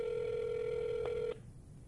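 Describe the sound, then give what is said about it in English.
A phone call tone as a call is placed to a friend, a single steady mid-pitched electronic hum held for about a second and a quarter before cutting off abruptly, with a faint click just before it ends. No voices. “If he don't pick up and it goes to voicemail, he ain't your friend.”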